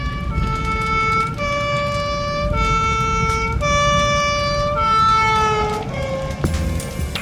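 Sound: ambulance siren approaching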